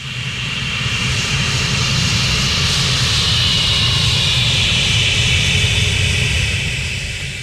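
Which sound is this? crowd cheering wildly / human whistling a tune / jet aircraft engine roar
jet aircraft engine roar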